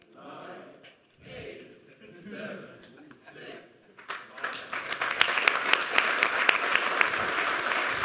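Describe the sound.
An audience breaks into loud, sustained applause after a few seconds of indistinct talk, the dense clapping swelling and continuing to the end.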